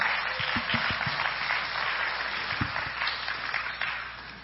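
A crowd applauds steadily, many hands clapping in a dense, even wash of sound that holds at a constant loudness for several seconds with no voices on top.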